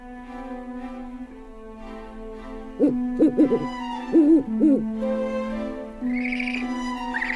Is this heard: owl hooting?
yes